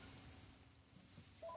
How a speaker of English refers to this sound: There's the phone.